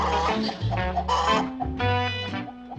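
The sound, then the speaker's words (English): A voice imitates a chicken in a frantic, loud run of clucks and squawks, with several bursts of noisy cackling packed together over a few seconds, unbroken. “Why did you make all that racket?”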